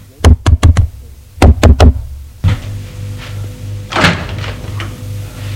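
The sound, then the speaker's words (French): Two quick sets of four sharp, loud knocks on a glass door, followed by a dull thud, a low hum and a brief rustling as the door seems to open. “Il voit une porte vitrée, frappe.”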